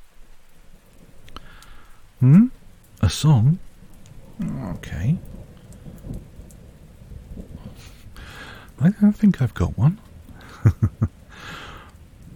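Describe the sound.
Steady rain hisses throughout, with a low rumble of distant thunder underneath. A soft voice speaks a few short phrases over the downpour.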